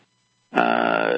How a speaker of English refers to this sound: Plus, it was recorded by one of the millennials who chomps food and burps, among other noises, while doing deep thinking in his bedroom.